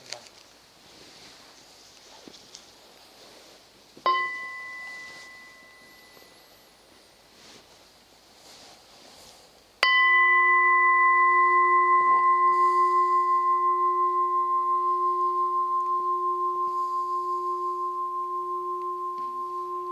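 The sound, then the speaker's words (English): A bell gives a light, quickly fading tap, then a strong clear strike whose rich ringing tone sustains and slowly decays for ten seconds, sounded once as an invitation to practice. “One sound of the bell.”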